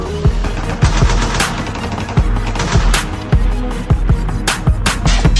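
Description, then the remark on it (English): Dense, loud gunfire fills the scene, with sharp repeated gunshots cracking in rapid, uneven bursts over a constant rumbling din, like a heavy firefight. “Sounds like gunshots everywhere I go.”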